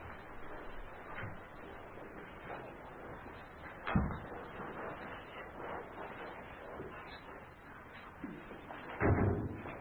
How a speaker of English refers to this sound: Door just opened.